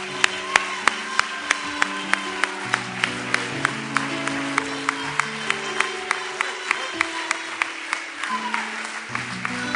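An audience claps in steady rhythmic unison, sharp claps landing on a regular beat over sustained keyboard or organ chords, with no speech.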